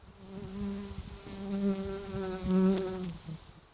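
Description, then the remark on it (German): A bee buzzes with a steady droning hum that wavers in pitch and loudness as it circles around a person's head beside a fragrant plant, swelling louder for a moment before fading slightly. “Ja, das war nämlich mein Problem, wenn man mit der Nase da hergeht, dann schwirren da Bienen und Zeug und Sachen um den Kopf herum.”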